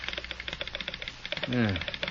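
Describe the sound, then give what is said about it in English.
A telegraph sounder clatters out a rapid, steady stream of sharp clicks as a message from Omaha comes over the line, with a brief low voice murmuring partway through. “Something coming over the line.”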